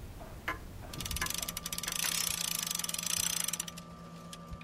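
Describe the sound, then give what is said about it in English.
Clocks ticking in the Wind Me Up Clock Shop, a clock repair shop in Rhinelander, in a rapid, dense run of sharp mechanical clicks that starts after a second and fades near the end, over a faint steady hum. No one speaks. “The tick and the tock that you're listening to, that is what they call the beat.”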